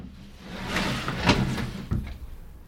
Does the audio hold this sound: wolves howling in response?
no